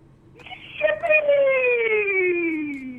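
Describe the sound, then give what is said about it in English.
A single feeble, drawn-out scream from a radio show caller over a phone line, starting high and slowly sagging in pitch for about two seconds, thin and muffled. “That is the lamest scream I've ever heard.”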